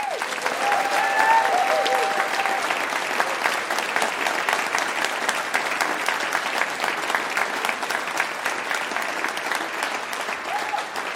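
Sustained audience applause, a dense steady wash of many hands clapping at fairly even loudness for about eleven seconds, with a few faint whistles or cheers near the start.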